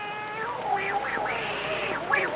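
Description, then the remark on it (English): A cat meows several times in quick succession, each call drawn out and rising and falling in pitch. The meows are fairly loud over a steady low background. “And the neighbors tell us that your cats are jealous.”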